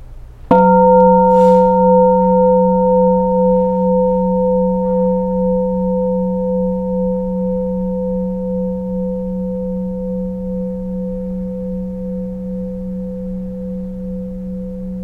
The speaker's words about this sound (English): The bell is still sounding.